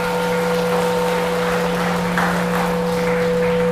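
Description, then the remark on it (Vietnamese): Steady audience applause fills the space, a dense wash of clapping hands at even loudness, with a constant electrical hum running beneath it throughout. “Nếu các bạn đồng ý với thái độ này thì cho một tràng pháo tay thật lớn.”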